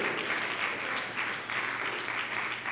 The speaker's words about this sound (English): Somebody give the Lord a good hand clap of praise. Woo!